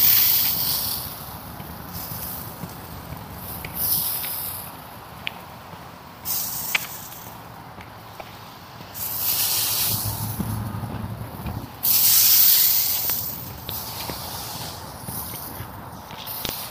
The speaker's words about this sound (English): And my sprinklers did come on. Yes. Not exactly the timing I expected. I wonder if it was because they set for 6 o'clock.